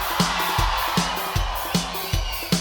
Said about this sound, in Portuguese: Cadê o grito da galera? Eu quero ver quem tá mais animado aí, viu? Quero ver quem tá mais animado aí.